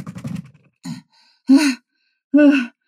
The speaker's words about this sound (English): You look pale and you are panting. Have you been chased? No, I saw a snake.